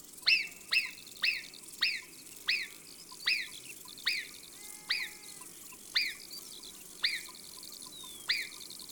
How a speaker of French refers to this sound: Nous sommes les sentinelles de la montagne. Nous voyons tout et nous sifflons au moindre danger. C'est vrai, les marmottes sifflent pour annoncer un danger. Un renard, un homme, un aigle. Mais elles sifflent aussi pour le plaisir, comme ça.